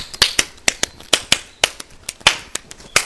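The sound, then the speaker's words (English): An audience claps their hands in praise during worship, in a loose, uneven rhythm, about four sharp, crisp claps per second, with no voices over them. “If you're not ashamed to praise Him, clap your hands up.”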